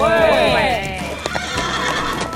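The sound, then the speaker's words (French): A restless horse neighs loudly with a long, wavering whinny, followed by scattered hoof clops and shuffling, the animal sounding agitated and restless. “Nom d'une pomme de terre de purée de cheval qui tient pas en place.”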